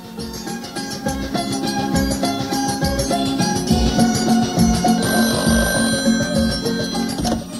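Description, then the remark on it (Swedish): A telephone rings steadily for several seconds as a call comes into a radio studio, a bright repeating bell-like tone, with no voices present. “Jo då, så att vi kan väl lyssna på hur det lät när hon ringer kanske.”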